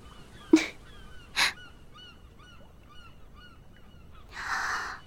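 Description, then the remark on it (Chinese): Many seagulls circling overhead around people at about sunrise: a few loud, harsh squawks stand out, with fainter repeated cries between them and a longer raspy call at the end. No one speaks. “好多海鸥啊，还在绕着我们飞呢。”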